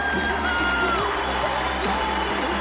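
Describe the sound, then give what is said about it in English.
A crowd applauds and cheers loudly and steadily as a performer is welcomed to the stage, a dense wash of clapping with whoops and yells rising above it throughout. “Big round of applause.”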